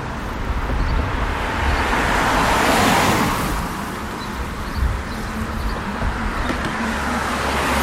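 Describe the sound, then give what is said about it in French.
Steady car traffic rumbles, with a continuous wash of road noise and a vehicle swelling past mid-way before the flow settles back into a dense, unbroken hum. “Nous avons extrait les pompiers, les trains et les voitures.”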